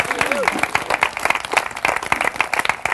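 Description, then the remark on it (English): A crowd at a house bursts into loud, sustained applause to thank the hosts, many hands clapping in a dense, irregular patter, with a brief voice or whistle rising over the start. “So please, everyone, clap real loud.”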